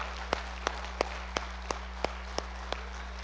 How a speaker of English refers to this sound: Hey, are you alive? Give Him a good clap, amen. Give Him a good clap.